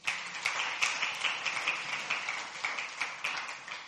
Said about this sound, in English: Let's give a big hand clap to the worship team.